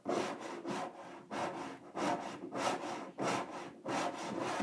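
A cat scratches at a wooden door in quick, rhythmic strokes, about eight rasping scrapes in a row, fairly loud, with no voices.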